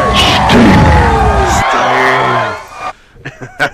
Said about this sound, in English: Yeah. And especially, like you said, you can hear the crowd.